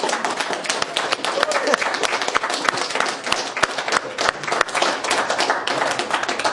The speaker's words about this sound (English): Let's start the morning by a rousing round of applause for all the moms that are here.